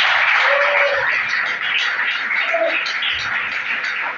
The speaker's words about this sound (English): Clap your hand for our Lord Jesus.